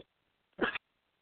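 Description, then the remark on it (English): A single short cough from a speaker who keeps coughing bursts out, abrupt and fairly loud, with quiet on either side and no talking. “I'm sorry, I keep coughing.”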